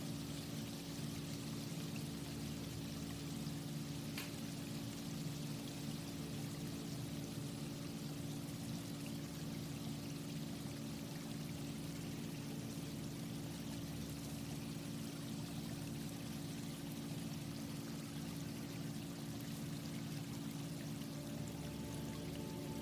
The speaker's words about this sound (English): As you continue to walk, I want you to hear that stream becoming louder as you're closer to the water.